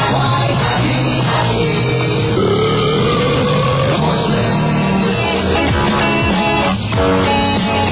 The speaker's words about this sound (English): So I think the practical joke is that they inserted a belch.